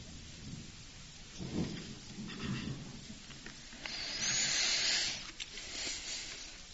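Low rolling thunder rumbles through a steady hiss of falling rain, swelling in a couple of heavy waves before a bright, sharper wash of downpour noise takes over near the end.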